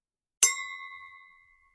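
A single bright clink of wine glasses touching in a toast, followed by a clear ringing tone that lingers and slowly fades over about a second, alone with no talking.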